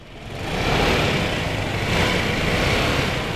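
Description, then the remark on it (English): A motorbike engine revs up in Seoul, South Korea, its rough roar swelling over the first second and then holding steady and loud, with no voices. The rider works for the substitute-man service Anyman and has a large box attached to the back of the motorbike. “revs up his engine, straps on a helmet, and locks down a large box attached to the back of his motorbike.”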